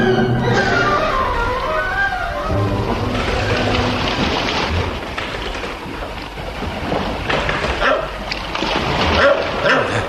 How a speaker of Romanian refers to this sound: Ce-i cu câinele ăsta? E din ce în ce mai furios.